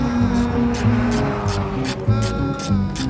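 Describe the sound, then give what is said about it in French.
Car engines drone steadily with shifting pitch as cars are driven on the track at a car enthusiasts' event at the Abbeville circuit, their revving tones layered over a rumbling low end, while regular bursts of hiss pulse through the busy motorsport din. “Donc pour les personnes qui sont passionnées de voitures, ils peuvent rouler sur piste ou exposer tout simplement leur voiture sur les paddocks.”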